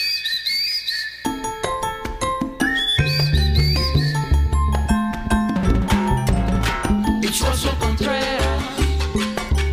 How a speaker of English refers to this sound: Oh, are they whistling now?